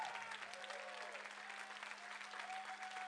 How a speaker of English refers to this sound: Everybody that has served in the country, look at that. Amen. Come on, give them a better hand clap than that. They deserve it.